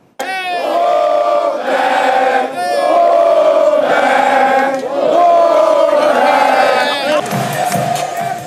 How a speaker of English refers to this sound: The team returned to a cheering crowd of supporters.